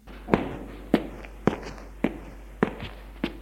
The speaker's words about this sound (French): Très tard, dans la nuit, habillés de pulls et de pantalons noirs, pieds nus, avec une lampe de poche, ils ouvrent la porte avec précaution. Descend les escaliers sans faire de bruit.